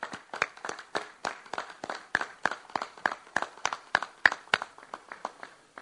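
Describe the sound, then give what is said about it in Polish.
An audience claps together in a steady, rhythmic beat, about four sharp claps per second, moderately loud and sustained for several seconds with no talking. “I dla niego w sposób szczególny, drodzy Państwo, należą się brawa i o te brawa gorąco proszę.”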